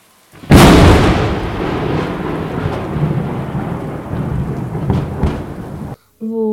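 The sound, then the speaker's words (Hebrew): A loud thunder crash bursts out suddenly, then rumbles on for several seconds with rain-like hiss before cutting off abruptly, followed by a brief voice. “אז הם בסוף נתנו את המכת ברק הכי גדולה שלהם וכיסחו לו את הצורה לקרונוס.”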